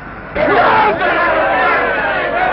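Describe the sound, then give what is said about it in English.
A large, happy crowd breaks into loud cheering and shouting after a brief quiet start, a dense, sustained roar of many voices that stays strong to the end. “Joyce and Lee join the happy crowd looking up at him before they disperse”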